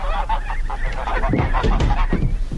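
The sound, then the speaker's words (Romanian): Geese, brought as a gift, honking in a busy, overlapping chorus, several birds calling repeatedly over steady low background noise. “Mi-a dat cineva gâștele astea să vi le aduc.”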